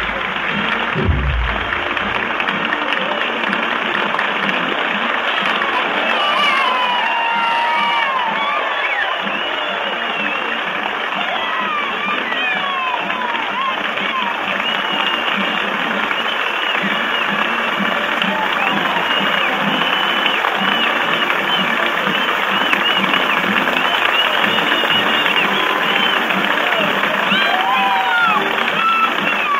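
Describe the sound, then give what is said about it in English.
Loud, steady applause and cheers from a large crowd in Fort Worth greet the president's entrance as he walks to the speaker's platform, filling the whole stretch without a break, with faint thumps of a band's bass drum buried underneath and scattered voices mixed in. “President now is walking to his place behind the rostrum at the speaker's platform, and as we anticipated, the most that you can hear probably from the band is the bass drum and the applause and the cheers that are greeting the president's appearance”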